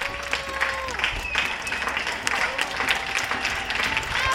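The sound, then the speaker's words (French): Scattered applause and clapping from many people on their balconies at 8 pm during lockdown, applauding healthcare workers, with whistles and voices mixed in, echoing across an open space as a crowd cheers. “Oui, depuis le début du confinement, il y a plus d'un mois, on a tous pris une habitude, chaque soir à 20h, applaudir le personnel soignant à son balcon.”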